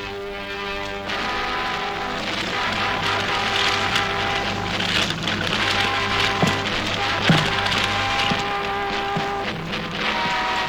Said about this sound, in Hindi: कागज क्यों जला रहे हो?